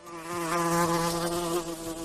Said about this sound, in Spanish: Y este otro, que ahora vas a escuchar, es el de una velutina o avispa asiática.